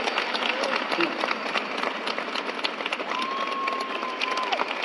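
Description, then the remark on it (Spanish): Sustained audience applause given in remembrance, alongside an audience prize, before the mayor of Ciudad Real hands over a white rose, a dense steady wash of many hands clapping at an even loudness, with a faint high whistle sliding briefly through the middle of the clapping. “Y en recuerdo, y por este aplauso y por este premio del público, la alcaldesa de Ciudad Real las entrega una rosa blanca para que la llevéis hasta”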